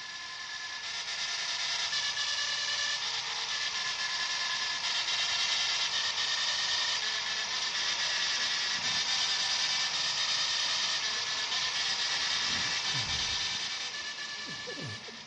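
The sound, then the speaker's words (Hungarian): A mechanical 14-3 model printer plays a tune by printing dots, letters and symbols singly or in groups, each giving a different tone. Its rapid hammering merges into a continuous buzzing rasp with steady pitched tones, loud throughout, with no voices. “pihent agyú matematikusok, nem, zseniális matematikusok megfigyelték azt, hogy a nyomtató, mikor pontokat ír, vagy betűket, jeleket, kettőt, vagy hármat, vagy csoportosan különböző hangot ad, és így írtak rá zenét.”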